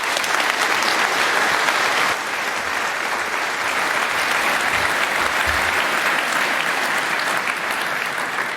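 Sustained applause from an audience in a crowded room welcoming two speakers to a talk about talking to the stars, a dense steady wash of many hands clapping at a loud, even level for several seconds, easing only slightly partway through.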